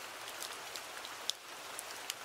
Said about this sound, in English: Did you know that this sound, gentle rain, is the top sound of all white noise sounds that people pick? And it is literally synonymous with the idea of gentleness.